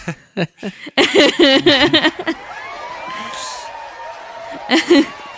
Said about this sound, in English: Sorry, I was waiting to use that. That applause.